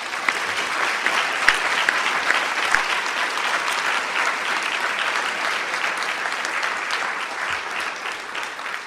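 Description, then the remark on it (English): Sustained audience applause of thanks at the close of a lecture, steady and loud, many hands clapping together in a dense, continuous wash that holds for several seconds without talk. “Maybe one final round of applause of thanks.”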